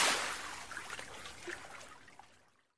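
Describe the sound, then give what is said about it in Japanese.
A quiet, steady trickle of liquid with small scattered pops and bubbly blips, fading gradually away to silence over a few seconds: blood flowing from a nosebleed as red bubbles burst. “真っ赤な泡が割れていく。ああ、流れている。僕の血が、僕だけの血が流れている。”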